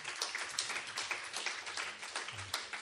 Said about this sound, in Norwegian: Applaus.